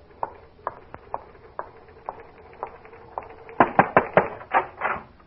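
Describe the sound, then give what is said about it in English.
Typing on what sounds like a typewriter: evenly spaced single key clacks, then a quicker, louder cluster of strikes near the end, with no voices. “Are you typing? Sure. I help her out sometimes.”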